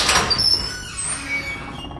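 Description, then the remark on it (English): A door swings open with a drawn-out, high-pitched creak and squeal, fairly loud, fading into a low rumbling tail with no voices. “I took a deep breath, readied my flashlight, and opened the door.”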